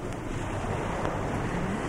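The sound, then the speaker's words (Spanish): A steady, dense hiss of a downpour pattering onto open water, a continuous wash of fine splashes with a low rumbling undertone and no voices. “Está fresquita la lluvia. Qué raro sentir llover con el agua hasta el cuello.”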